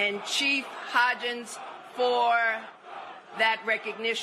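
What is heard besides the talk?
crowd chanting a name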